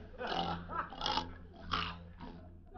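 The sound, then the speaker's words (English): Rough, snorting grunts like a pig, four harsh bursts in a loose uneven rhythm, moderately loud over a steady low hum. “One of the brothers down there must be roasting a pig.”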